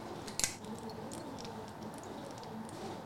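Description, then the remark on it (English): A quiet sip of water: a small click of a cup or bottle, then faint wet mouth and swallowing sounds over soft room hiss, with no talking. “Anyways, let me get a sip of water.”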